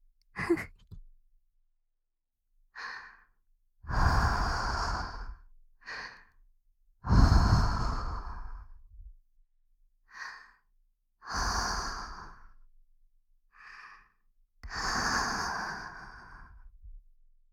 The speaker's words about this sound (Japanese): お耳、はぁはぁってやられるの好き？好きですって？それじゃあ、もっとしてあげようか。